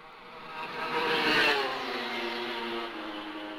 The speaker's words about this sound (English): Just listen to the Suzuki as it goes through at the end of lap one.